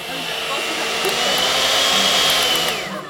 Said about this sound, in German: Dafür muss erstmal der Teig zusammengerührt werden.